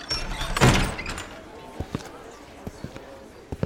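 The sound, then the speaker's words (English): A heavy wooden castle door booms open with a deep, rumbling thud as someone walks out, followed by a series of sharp, hollow knocks or footsteps spaced unevenly over a quiet background. “Prince Vex walks out of the castle doors”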